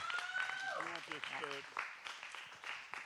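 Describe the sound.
An audience claps their hands in a loose, steady burst while voices call out and cheer over the applause, with a high tone trailing through the first second.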